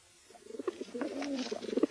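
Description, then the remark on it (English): Soft, throaty cooing from a dying pigeon builds over a couple of seconds, a run of low rolling coos and gurgles, with no voices present. “Oh, put the bird back in the ducat, Charlie.”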